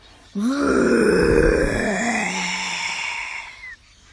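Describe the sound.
A person voices a dragon's roar: one long, loud, gravelly growl lasting about three seconds, starting abruptly, holding steady with a slight rise in pitch, then trailing off.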